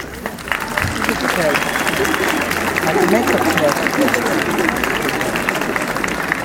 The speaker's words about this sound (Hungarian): Most viszont arra kérném a kicsiket, figyeltek rám, ugye, hogy mindenki álljon föl, forduljon arra fele, a nagy föld fele, hajoljatok meg, és kérjünk egy nagy-nagy tapsot.